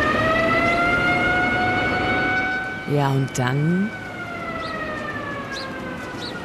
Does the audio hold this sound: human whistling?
no